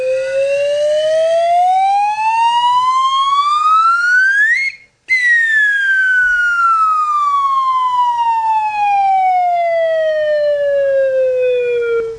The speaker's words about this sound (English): How about a slide whistle?